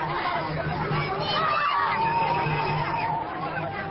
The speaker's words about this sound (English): A cultural festival of music and art from around the world is in its second week, and crowds of people come out every night to listen to the music and stroll along Doha's serene seafront.